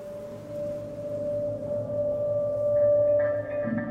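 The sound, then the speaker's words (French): A steady, dense buzzing hum from a honeybee colony clustered in winter inside the hive, bees holding onto one another around wax combs of honey stores with the queen at the centre, while it freezes outside; continuous and droning, moderately loud, with a few faint higher tones rising near the end. “Les abeilles se tiennent les unes aux autres. La colonie forme une grappe.”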